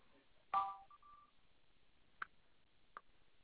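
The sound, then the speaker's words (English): A short electronic beep rings out, a steady mid-pitched tone lasting under a second after a sharp onset, followed later by two faint, brief clicks; no one speaks. “Did you get that beep?”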